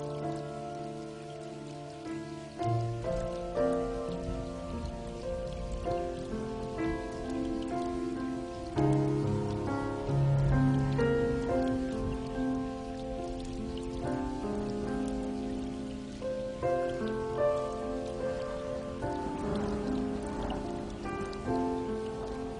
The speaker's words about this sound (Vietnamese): Em có thầm nghe mưa bay ngoài đó, em có buồn khi gió thổi đêm đêm.